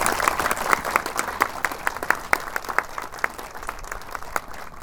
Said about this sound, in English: So again, one last round of applause for all of them.